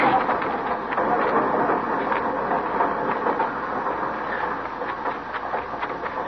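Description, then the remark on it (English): A train pulls out of a station, its steady rumble broken by scattered metallic clanks and rattles, with no voices over the noise. “Get on the train, Flora.”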